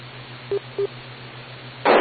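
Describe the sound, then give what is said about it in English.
Two short, identical beeps of EchoLink internet radio connection audio a moment apart over a steady low electrical hum, followed by a sudden loud burst of radio static at the end. There is no speech. “That is the echo link audio.”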